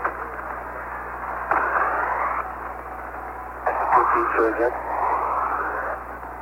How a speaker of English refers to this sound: Houston, 15, Houston, you're way down in the static, but I can't hear you transmit, over.